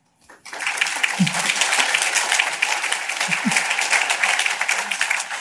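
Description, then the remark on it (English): An audience breaks into sustained applause for families who graduated off subsidy through the Chicago Housing Authority homeownership program, a dense wash of many hands clapping that starts abruptly and holds steady and fairly loud throughout, with a few low thumps underneath. “Another round of applause for that.”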